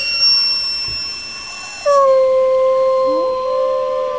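gray wolf howling

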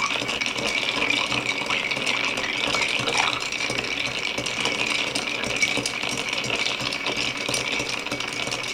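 stirring a cocktail

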